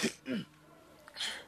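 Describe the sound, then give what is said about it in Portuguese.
A couple of short, harsh coughing bursts from someone spraying spittle all around, the first pair quick together and another after a brief pause, with no talking. “Por isso é que estás a tossir e a deitar perdigotes aqui por todo lado.”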